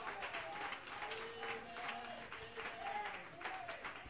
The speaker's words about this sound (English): Come on, somebody, clap your hands tonight.